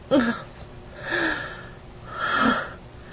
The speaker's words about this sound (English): Hearing my gasp, you call out one moment.